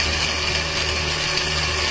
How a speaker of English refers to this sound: The drill touches Alex's forehead, drawing blood.